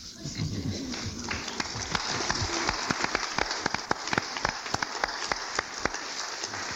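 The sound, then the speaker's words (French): Steady rain pattering on a hard surface, with frequent sharp drops striking in an irregular rhythm over a constant hiss. No voices are present. “Il a plu hier, pleut aujourd'hui, pleuvra demain.”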